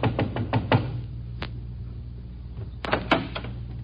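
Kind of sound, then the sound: impact, knocking on a door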